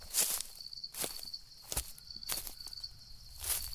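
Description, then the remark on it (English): Slow, uneven footsteps crunch through dry leaves in a forest amphitheater at the crack of dawn, each step a sharp brittle rustle, about five over a few seconds, with a steady high insect chirp running underneath. “Now, when you're out in the middle of the forest in an amphitheater all by yourself at the early crack of dawn, every little noise in the forest gets you to jumping, including when I heard something crunching through the leaves off to my right.”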